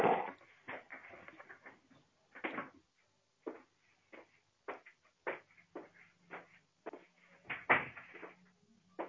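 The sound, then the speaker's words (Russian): A door is closed amid a flurry of handling noises: scattered knocks, rustles and clunks of varying loudness, with no one speaking. “Сейчас дверь закрою, подожди.”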